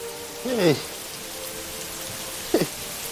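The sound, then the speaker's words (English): Heavy rain pours down on a subway entrance in a steady, dense hiss that fills the whole clip, with two brief vocal sounds from a person cutting through the downpour. “The four friends trudge upstairs to the rain-battered subway entrance.”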